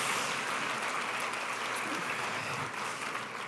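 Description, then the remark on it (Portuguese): A church audience in São Paulo applauds for Jesus steadily, a dense wash of many hands clapping at an even loudness from start to finish, with no voices standing out. “Dê mais uma forte salva de palmas para Jesus.”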